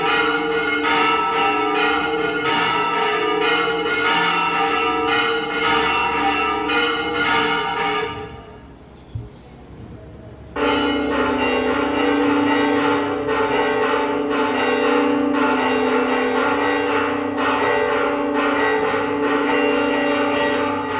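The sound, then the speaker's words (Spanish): Church bells rung by bell ringers on a Sunday at the Hospital del Rey in Burgos, Spain, ringing loudly and continuously, their overlapping strikes forming a dense, clanging peal that briefly thins out to near silence before the full ringing resumes. No one speaks. “Siempre, esto es en el Hospital del Rey, cuando los domingos vamos a tocar.”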